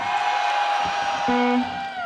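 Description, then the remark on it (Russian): A concert audience shouts "da" (yes) together to extend the concert to 11:30, one loud, sustained roar of many voices that holds steady for about two seconds without a pause. “А если 11:30, значит громко кричим «да».”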